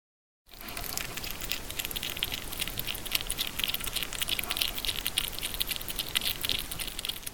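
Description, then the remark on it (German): A hedgehog named Eddie snuffles and rustles steadily, a dense crackling patter with bursts of high, scratchy noise and soft sniffing, continuous and fairly loud, with no voices. “So, dann schaue ich mal, was die Igel noch dazu zu sagen haben.”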